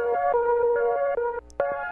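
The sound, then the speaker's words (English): An Optigan optical organ plays sustained, slightly hissy organ chords that shift every half second or so, with a brief dropout before the tone returns. No one speaks. “Listener Greg Markell demonstrating the Optigan.”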